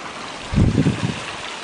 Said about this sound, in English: That creek is really deep here. Probably over 6 feet deep, maybe 8. Maybe 10 feet. Who knows? I haven't ever tried to find the bottom of it there.